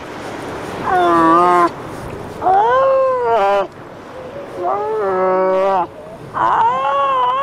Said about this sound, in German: Diese junge Kegelrobbe hat Hunger. Sie muss auf sich aufmerksam machen, damit ihre Mutter sie säugen kommt.